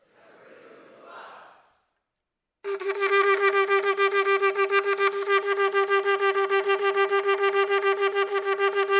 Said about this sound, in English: And the trumpet word there in Hebrew is shofar, the teruah or the alarm of war.